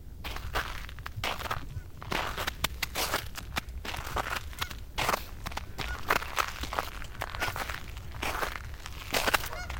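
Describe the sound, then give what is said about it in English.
Crunchy footsteps walk steadily outdoors toward the edge of a lake just before ice out at Tamarack National Wildlife Refuge. Each step is a crisp, gritty crush as if over icy or crusty ground, continuous for the whole stretch, with no talking. “today we're walking to the edge of a lake just before ice out.”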